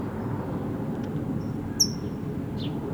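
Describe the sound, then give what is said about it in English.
A few short, high chip calls from a color-banded bird (red, yellow, green bands), one sharp and clear with a fainter one after, over a steady low rumbling background noise; no one speaks. “Yes, red, yellow, green is the doe here that's chipping.”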